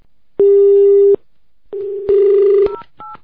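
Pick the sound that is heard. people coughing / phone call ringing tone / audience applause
phone call ringing tone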